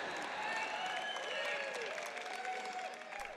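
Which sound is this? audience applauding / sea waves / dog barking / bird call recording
audience applauding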